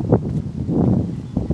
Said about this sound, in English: the wind is rustling in the leaves. And I'm walking along the path, and there are autumn leaves, dry leaves on the floor, and I'm rustling through those dry leaves.